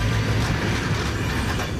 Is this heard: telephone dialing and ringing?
no